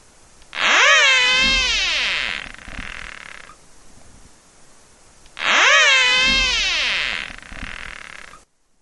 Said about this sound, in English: birds responded to caterpillar whistles by jumping away and abandoning their predation attempts